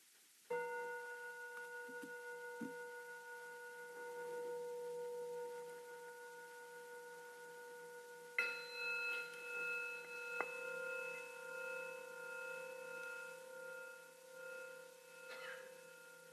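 Bells ring out with long, sustained tones, a first strike followed about eight seconds later by a second, brighter one, their layered pitches humming and slowly fading with no talking.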